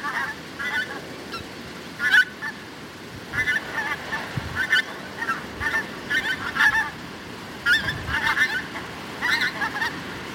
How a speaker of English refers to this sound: One of the key features of Fala Moor is that 2% of the world's population of pink-footed geese come to overwinter on the moor.